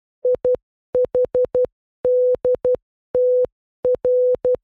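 signal or alarm, morse code beeps

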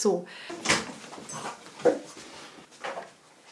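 animal, dog panting excitedly

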